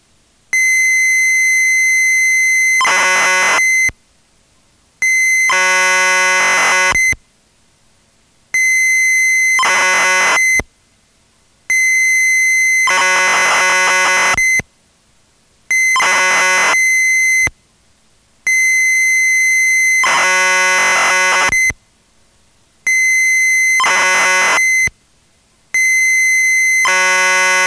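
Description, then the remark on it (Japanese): Computer data tones from a cassette tape holding the screen data for a keyboard lesson, to be loaded in BG graphic mode: loud, shrill steady whines broken into about eight blocks by brief silences, each block carrying a harsh, buzzing burst of warbling data noise. “これからはキーボードレッスンの画面データが入っています。”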